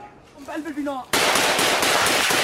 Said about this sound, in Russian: Другой видеоролик, загруженный 1 мая, показывает, как члены одной из повстанческих группировок ведут перестрелку с войсками Башара аль-Асада. Как предполагается, бой ведется в городе Аль-Млейха, расположенном на востоке от Дамаска.